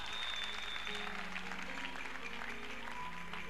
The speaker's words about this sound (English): Clap your two hands together.